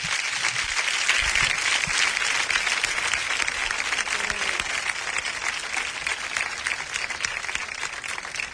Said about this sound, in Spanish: Vamos a darle una primera ovación al nuevo Emilio Silvera. Emilio.